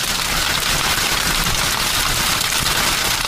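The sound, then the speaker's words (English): Hail pelting down hard, a dense, unbroken clatter of countless rapid impacts that crackles and pops steadily and loudly for the whole stretch, with no voices. “If you've had gone through a hailstorm, which everybody in Texas has, you know, from San Diego, you're like, hail?”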